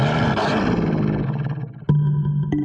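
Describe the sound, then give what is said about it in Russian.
A male wolf, crouched on its hind legs in a dark cave and ready to leap at an approaching enemy, growls furiously: a loud, long roaring snarl that fades slightly before a sharper, renewed burst of growling near the end. No one speaks. “Во мраке пещеры волчьи глаза горели зеленым огнем. В горле клокотал яростный рык.”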